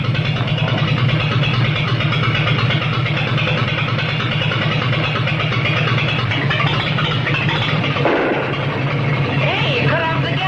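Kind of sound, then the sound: vehicle, car engine idling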